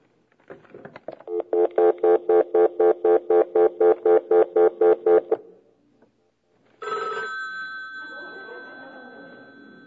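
A few clicks give way to a telephone ringing in a fast, buzzy pulsing trill for about four seconds as a number is called again; after a short silence a steady electronic line tone comes in over hiss.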